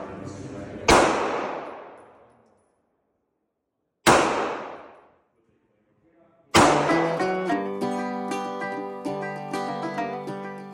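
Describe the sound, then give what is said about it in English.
Two sharp gunshot blasts at Thistle Gun Range, a large outdoor range in a canyon in Spanish Fork, Utah, surrounded by tall, golden-colored mountains. Each blast trails off in a long, fading echo, then a third blast runs into a sustained, tonal, music-like sound. “When I arrive, gunshots are ringing through the canyon.”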